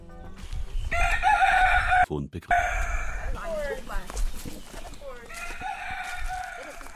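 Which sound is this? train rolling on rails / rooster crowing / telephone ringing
rooster crowing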